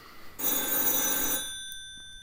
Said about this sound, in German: Das ist mein Not-Telefon. Soll ich abnehmen? Nein, nein. Sicher keiner, der Eier verkauft.